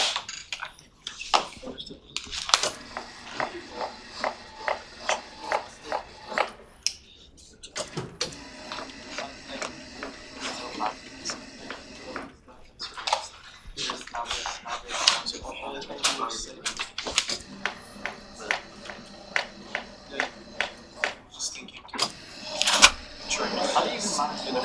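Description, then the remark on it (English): A blackboard is erased with repeated brisk rubbing strokes during a break in a lecture, then heavy blackboards rumble and clatter as they are moved along their tracks, continuing in bursts with short pauses. “I drink some water, erase the blackboard, well, move the blackboards around, and you can think if you have questions, and then we'll”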